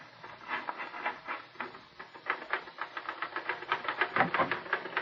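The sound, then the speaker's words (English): Rapid mechanical clacking of typewriter keys, struck in quick irregular bursts with a steady rattling rhythm that grows busier toward the end. No voices are heard. “sit down at that typewriter and write an honest story for change.”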